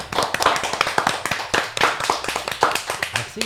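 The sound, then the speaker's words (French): An audience bursts into steady applause for the two members of a band, many hands clapping in a dense, crackling patter that stays loud and even throughout, with no voices standing out. “Ils sont tous les deux avec nous, c'est Georges et Manu, on les applaudit.”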